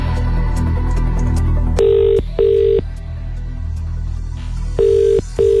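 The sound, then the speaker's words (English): A telephone ringback tone sounds in two double-burst rings, each a steady buzzy tone, loud, over a low humming bed with no talking, as a call is placed to a random phone number. “Let's call the first random number, please.”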